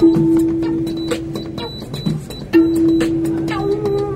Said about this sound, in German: Tür schließt.